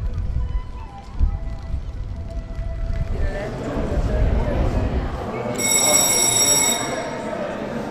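A doorbell in the middle of the International Pavilion, an artwork thought to be by Yoko, gives one bright, buzzing electric ring lasting just over a second. It sounds loud above a steady murmur of crowd noise and shuffling footsteps.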